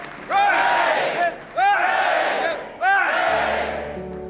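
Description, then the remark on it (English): The household in the grand entrance hall of Buckingham Palace gives the king and Queen Camilla three loud, evenly spaced cheers, each a sustained roar of many voices rising together and holding for about a second before the next one bursts out. “And everybody gave them three cheers.”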